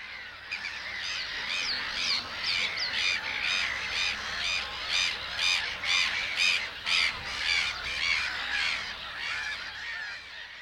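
A dense flock of gulls calling over one another, harsh repeated cries overlapping continuously at fairly close range, with no voices.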